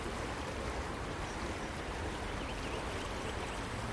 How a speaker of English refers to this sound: Before they built the new Selly Oak bypass. All this was just wasteland. So I just hope they keep this part of the brook as nature intended. But at the moment it's working quite nice as a sponge.